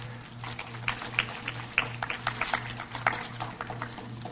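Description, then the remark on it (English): An audience claps for a group of guys, a dense, steady patter of many hands lasting several seconds at moderate loudness, with a low pulsing hum underneath and no voices. “Once you get to Romans chapter 6, give our guys a little hand.”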